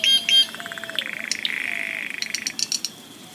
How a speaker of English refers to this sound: It's a gaudy tropical species that never fails to astonish anyone who sees it for the first time. As green as a parrot, with a black and blue head and a yellow tail, the jay has an exotic voice to match.